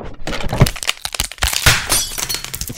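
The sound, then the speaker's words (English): A phone getting crushed in a recliner chair's footrest mechanism as the footrest is extended: a rapid run of sharp cracks, crunches and brittle snapping, loud and irregular for about three seconds, with no voices. “And when I did that, I extended the footrest on the chair. And when I did that, this is the sound that that I heard.”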